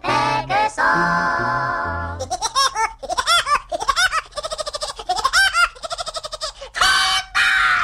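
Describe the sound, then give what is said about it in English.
A voice imitates the laugh of the cartoon character Woody Woodpecker in rapid, bouncy, trilling bursts, sung loud as part of a 1948 song with musical accompaniment, the chattering phrases repeating in quick rhythmic runs. “was the original voice of Woody Woodpecker and created the iconic laugh, which everybody's doing now in 1948 thanks to the”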